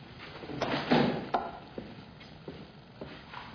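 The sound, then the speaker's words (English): A door is worked open and then shut, with a scrape, a louder thud near the start and several lighter knocks and clicks after, fairly quiet, with no voices. “You want to go through that door.”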